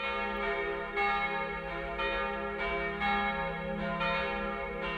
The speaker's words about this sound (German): Samstag, 18.45 Uhr. Die evangelische Christuskirche im Westen von Köln-Delbrück läutet den Sonntag ein. Die kleinste der drei Glocken stammt noch aus dem Jahr 1925. Die beiden großen wurden nach den Verlusten des Zweiten Weltkriegs ersetzt.